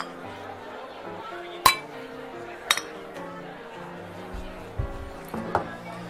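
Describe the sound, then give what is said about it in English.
Several sharp glass clinks ring out in a toast, two bright taps close together and more near the end, over a low murmur of background voices and room noise. “Here's to season 7, buddy. Cheers.”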